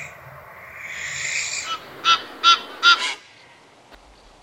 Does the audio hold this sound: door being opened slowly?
no